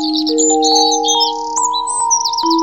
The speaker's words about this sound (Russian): Эти восхитительные колокольчики, звучащие, кажется, в самом воздухе от трелей пташек.